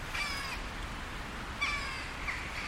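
A hooded crow, grey with a black head, caws a few times, harsh calls spaced out over steady outdoor background noise, with no one speaking.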